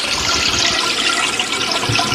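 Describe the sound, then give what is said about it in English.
A toilet flushes with a loud, steady rush of water that fills the whole moment, a continuous hissing gush with no voices over it. “I have a flush.”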